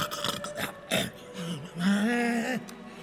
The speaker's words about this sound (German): Ihr habt schon wieder geschnarcht. Wie? Geschnarcht.